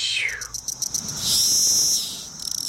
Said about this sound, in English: And so Magiscicada cassini is the one that's black underneath. And it's one that has a series of ticks and they get faster and faster. And in the end, there's kind of a little scream at the end. It goes like tick, tick, tick, tick, tick.